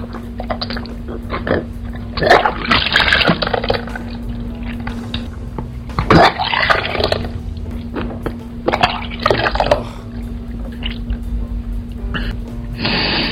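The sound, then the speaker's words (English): Water runs and gushes into a bathtub in uneven, splashing surges over a steady low hum, with no one speaking. “Can you get the bath ready for me?”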